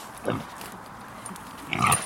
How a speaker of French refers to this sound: Je vais attacher le cochon.